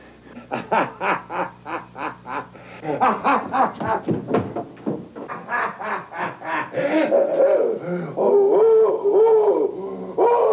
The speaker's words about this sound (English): the howl sounds a little like Count Floyd on Second City TV